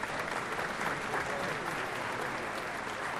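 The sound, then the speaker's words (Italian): Sustained applause from several thousand citizens paying tribute to victims after 16 minutes of silence, a dense, steady wash of clapping hands that holds at an even, fairly loud level throughout without a break. “Oggi diverse migliaia di cittadini hanno mostrato il loro sostegno agli studenti e pagato un tributo alle vittime, con 16 minuti di silenzio seguiti da un lungo applauso.”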